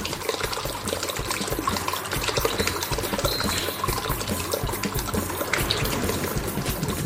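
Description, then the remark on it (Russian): Water splashes and churns steadily in fog with a dense, rustling hiss, even in loudness throughout, with no voices present. “Я не успел добежать до берега, а он уже исчез за клочьями тумана, и только слышались оттуда из-за сероватой пелены затихающие шорохи, плески и тоненький пронзительный свист.”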